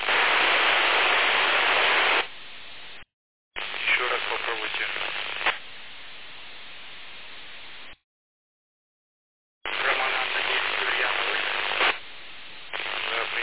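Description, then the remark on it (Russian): Bursts of loud, hissing static noise through a radio repeater, opening and cutting off several times with abrupt silences between, while a voice speaks briefly over the crackle. “Но пока что только шум идет через репетер, только открывается репетер, идет шум.”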